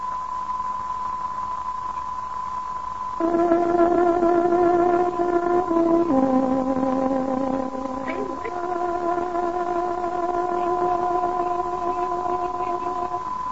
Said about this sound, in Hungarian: Itt a Szabad Európa rádiója, a Szabad Magyarország hangja a 16, 19, 25 és 41 méteres rövid hullám. Kedves hallgatóink, pontos időjelzést ad. Tárogatónk 22 órát jelez.